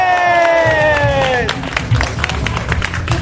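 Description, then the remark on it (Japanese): A drawn-out, falling cheer from a voice opens, then a crowd breaks into brisk, scattered clapping that continues steadily to the end, with a few shouts mixed in. “はい、拍手した人のね、2割くらい来ると思うんで、次回僕やりたいと思いますけどもね。”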